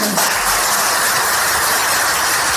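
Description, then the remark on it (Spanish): Sustained applause from a large crowd at a political event, dedicated to Mazón by party colleagues and Valencian government officials at an event he called on the anniversary of the DANA; a dense, steady wash of clapping that stays loud and even throughout, with no voices rising above it. “Este es el aplauso que le dedicaron a Mazón compañeros de partido y cargos del gobierno valenciano en aquel acto que convocó justo en el aniversario de la Dana.”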